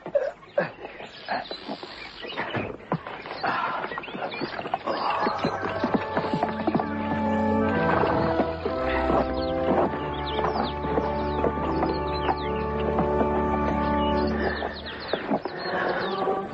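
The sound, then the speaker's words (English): Horses stamping and clip-clopping outside a church, about to be tied up, their irregular hoof knocks mixing with a snort and a faint whinny, while bright tonal birdsong and a steady low hum run underneath. “I'll tie up the horses for you.”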